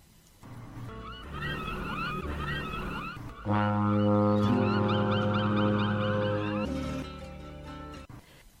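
A ship's horn sounds one long, deep, steady blast lasting a few seconds, loud, while birds chirp before, during and after it.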